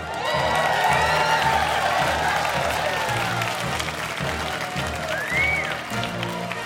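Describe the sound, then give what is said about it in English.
A large crowd applauds and cheers for Donald J. Trump, introduced as president: dense clapping mixed with shouts and whoops, loud and sustained throughout with a few rising whistle-like cries standing out. “give it up bigly for your president, Donald J.”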